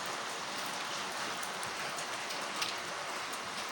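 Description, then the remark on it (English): Heavy rain pours down steadily, a dense, continuous hiss of drops striking a surface, with no pauses and no voices over it. “With all the rain.”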